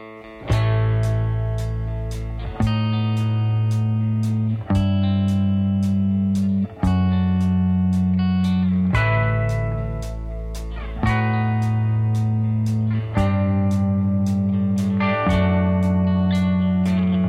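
A loud recorded rock song plays throughout, with distorted electric guitar chords changing every couple of seconds over heavy bass and crashing drums, sounding raw and energetic.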